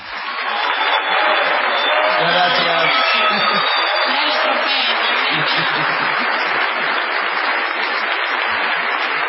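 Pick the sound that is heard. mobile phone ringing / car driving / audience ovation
audience ovation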